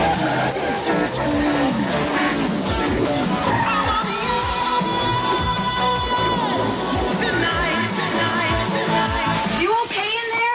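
A car engine roars and revs while tires screech and skid almost continuously, loud and busy throughout, with a final rising rev near the end, in a Diet Pepsi TV commercial.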